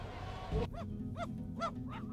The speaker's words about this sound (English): Come and get it! Yes, those puppies are tearing into a tent full of Billy Jack dog food.